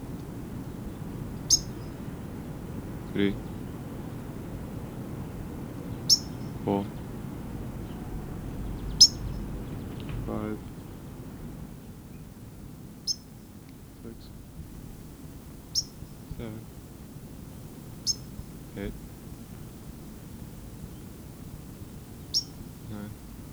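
A white-crowned sparrow directly overhead gives repeated alarm chips: about a dozen sharp, high, clipped notes at irregular intervals of one to three seconds over a steady low background rumble.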